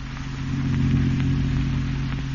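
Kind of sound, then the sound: vehicle, car driving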